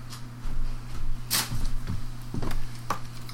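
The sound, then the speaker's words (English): A wooden door is pushed almost shut and left cracked open, giving one sharp knock followed by a few lighter creaks and taps over a steady low electrical hum, with no talking. “Fine. Keep the door cracked.”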